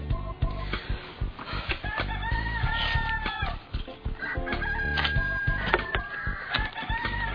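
A busy flock of chickens clucks and squawks continuously, with sharp overlapping calls and what sounds like a rooster crowing, loud, with no voices.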